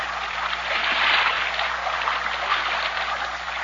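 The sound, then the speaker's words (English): Rushing river water churns steadily, with faint splashes of paddles as Moro boatmen paddle a heavily loaded Vinca boat against the swift rapids of a narrow river where it boils out of a narrow gorge through a mountain range; no voices are heard. “Listen to the Moro boatmen as they paddle their heavily loaded Vinca against the swift rapids of the narrow river.”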